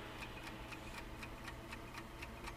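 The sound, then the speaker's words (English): A steady quiz countdown clock ticking at an even, brisk pace, about four ticks per second, crisp over a low background hum, with no voices. “Stop the clock!”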